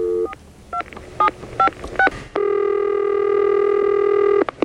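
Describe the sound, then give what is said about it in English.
A series of short, evenly spaced touch-tone beeps as a phone number is dialed to call a customer about her auto insurance, followed by a steady electronic ringback tone that holds for a couple of seconds. No one speaks. “But now, of course, we're going to call, and it's not really straightened out.”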